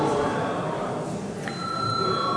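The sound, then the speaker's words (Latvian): A single bell, rung to call deputies to a vote during a parliamentary session, strikes partway through and rings on with a steady, sustained tone over hushed murmuring, clear but not loud. “Lūdzu, zvanu.”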